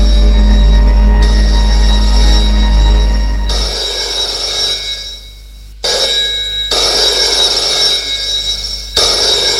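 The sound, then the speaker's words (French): A telephone rings in François's suite in sustained, shrill bursts with brief pauses between them, loud, with a low steady hum underneath and no voices. “Téléphone sonne dans la suite de François, qui est allongé sur son lit.”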